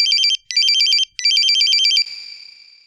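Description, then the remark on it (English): A mobile phone ringtone plays three bright, warbling electronic bursts with brief gaps, the last one fading out into a lingering tone. No one speaks. “What's that noise, David? It's my mobile phone.”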